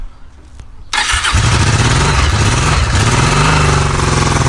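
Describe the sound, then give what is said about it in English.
A Honda 750cc motorcycle engine, with three valves per cylinder, shaft drive and twin ignition, cranks briefly with the electric starter, then catches and settles into a loud, steady, rumbling idle with a low throbbing pulse. “start this Honda up.”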